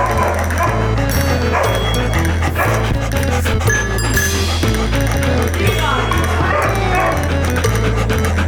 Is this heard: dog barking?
yes